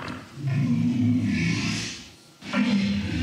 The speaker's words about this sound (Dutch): And this is a walrus.